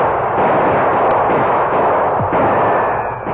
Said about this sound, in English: The outlaws were between Bert's gunfire and that of the Lone Ranger and Tonto.